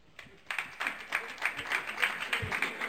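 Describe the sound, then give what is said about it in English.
A small crowd breaks into scattered applause, a few pairs of hands clapping at a steady moderate level for a couple of seconds after a brief quiet start. “My applause, who's been to Mississippi?”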